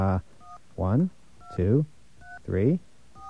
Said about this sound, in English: We found a number that actually works. Listen to this. Now, that tone, it wants touch tones. So let's give it some touch tones.